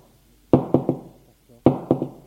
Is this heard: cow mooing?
no